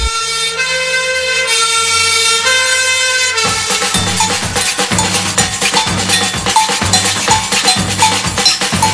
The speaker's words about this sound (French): sirène. Appelle au feu tous les pompiers. Et tout rayon qui se réveille voit brûler l'usine de café. Il n'y a pas de temps à perdre, sinon tout le quartier va brûler.